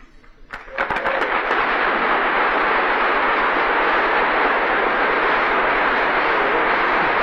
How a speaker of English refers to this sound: And, don't applaud, I don't have time for it.